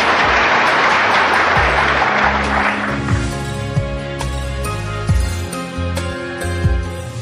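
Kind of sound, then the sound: crowd, audience clapping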